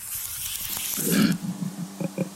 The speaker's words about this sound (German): Hast du dieses Geräusch schon mal gehört? Es ist kein Schweindi, es ist ein Koala. Mit diesem Grunzlaut kommuniziert er mit seinen Artgenossen, sogar über weite Strecken.